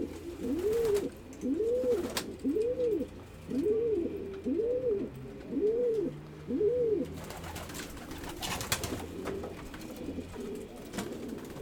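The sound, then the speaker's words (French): Two young pigeons coo in a steady series of about seven soft, rising-and-falling calls, followed by a few seconds of quieter rustling and background noise with no voices. “Il y a deux jeunes qui sont là. Ils recoultent un peu les jeunes.”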